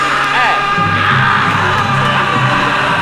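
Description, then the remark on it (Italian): A person gives a loud, sustained yell as a test, rising into a drawn-out shout over a noisy, crowded-sounding background that continues throughout. “Anche un urlo.”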